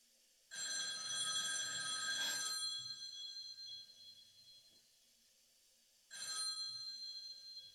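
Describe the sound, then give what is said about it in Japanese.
An old black rotary telephone, just inside the front entrance of a house on the right, rings loudly: one long metallic trill of about three seconds, a pause, then a second ring begins. No voices. “私の家は玄関を入ってすぐ右手に黒電話があるんですけどね。”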